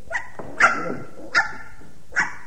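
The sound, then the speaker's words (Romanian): A puppy gives four short, high-pitched barks, unevenly spaced, with the first one softer than the rest. The yaps are fairly loud, and no one speaks. “Dacă știi ce spune cățelul babo, nu te mai văita atâta, vorbește mai repede”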